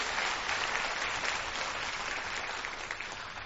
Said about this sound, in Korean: 여러분 다시 한번 기쁜 소식 강남교회 합창단에게 큰 박수 부탁드립니다.